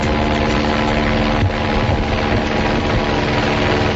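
A loud, steady drone of helicopters tracking a bear, with rhythmic rotor chopping and low engine rumble, continuous throughout as they pass overhead, with no voices.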